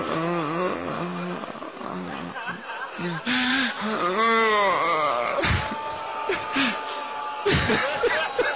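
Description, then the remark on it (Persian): A crowd of people weeping and wailing aloud during a prayer led from a pulpit, overlapping sobs and cries rising and falling in wavering voices, sustained throughout with sharp gasping breaks. “دیگه طاقت شنیدن گریه شما رو ندارم.”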